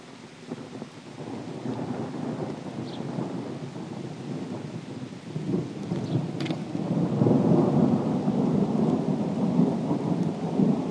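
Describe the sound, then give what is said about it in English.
A thunderstorm rumbles with deep, rolling thunder beneath steady rain, the low roar swelling louder in the second half, with a sharp crackle partway through and no voices. “Lightning comes.”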